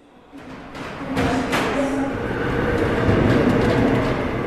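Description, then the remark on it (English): Steady rumble of a subway train in motion in Seoul, South Korea, on a morning ride to work, with metallic rattling and a few sharp clanks as the car rolls along, the noise building and holding loud throughout. “On my subway ride to work this morning, the number was approaching 1,000.”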